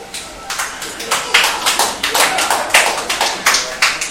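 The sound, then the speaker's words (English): Steady hand clapping, roughly a dozen sharp, bright claps in a quick, fairly even rhythm, moderately loud throughout with no talking over them. “Quite a thing to clap to, huh?”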